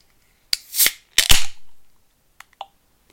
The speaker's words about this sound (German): Das war ein sehr mysteriöses Geräusch, ja. Hä? Wieso mysteriös? Das war auch eine Ach, Bierdose.